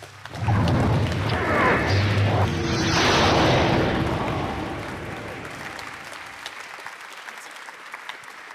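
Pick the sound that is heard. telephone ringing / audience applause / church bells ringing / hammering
audience applause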